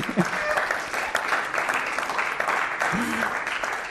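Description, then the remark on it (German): A church audience applauds two people signed up for baptism, in a steady, dense wash of clapping that holds at an even level throughout, with a few faint voices briefly rising beneath it. “Und wollen wir doch einmal an dieser Stelle einen großen Applaus an sie geben.”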